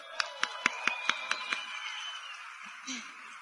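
About seven crisp claps in a quick, steady rhythm, like a small audience clapping together as a speaker is introduced, then a faint murmur.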